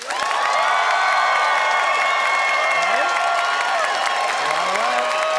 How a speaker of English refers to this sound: And it is up to our Calgary audience to decide by applause who agreed with